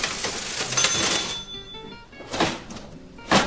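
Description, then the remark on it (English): A large old mechanical metal cash register (till) with a handle and typewriter-like keys, at the U Salvatora spice shop, clatters and rings: a burst of clunking key and lever noise, a pause, then two more sharp metallic clacks with a bright bell-like ring, no voices. “The large metal till at U Salvatora is the kind of contraption one would normally find in a museum, with a handle and keys similar to those on an old typewriter.”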